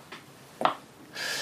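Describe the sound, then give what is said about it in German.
A coin is flipped: a faint flick, then a sharper tap, followed by a steady, thin metallic ringing as it spins. Quiet, with no one talking. “Dann werfe ich mal eine Münze.”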